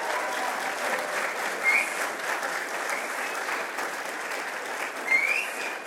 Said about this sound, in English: So again, another big round of applause if we could for Mr. Kinzel.